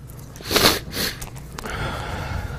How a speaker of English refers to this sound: Sorry for sniffing. I'm still fighting a slight cold.